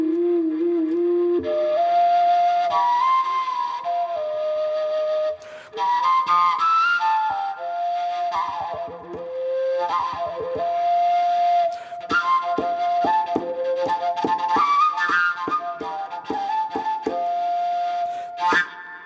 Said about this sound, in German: Also dann lassen Sie uns Ihre Obertonflöte doch mal hören.